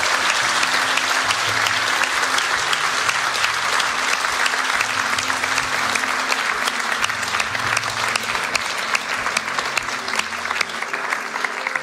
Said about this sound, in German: Hey, weil Ostern Fest der Freude ist, dürfen wir das jetzt auch mit einem gewaltigen Applaus feiern.